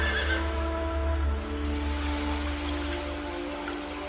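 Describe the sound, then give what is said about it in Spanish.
Horses whinny and neigh from the shore as a small boat sets sail, a drawn-out, quavering call that carries steadily for several seconds, fairly loud and clear over a soft background hiss, with no voices present. “Mientras zarpaba, los yuins relinchaban desde la orilla.”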